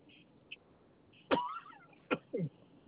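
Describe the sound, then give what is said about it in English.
A sharp sneeze bursts out over a thin, phone-quality line, followed moments later by a couple of shorter, breathy bursts against quiet background hiss. “Bless you.”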